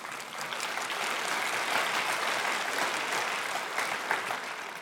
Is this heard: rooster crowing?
no